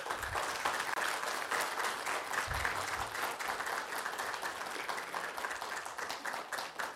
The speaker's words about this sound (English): So we're thankful for them. Thank you for your ministry. We can appreciate them with a round of applause, please.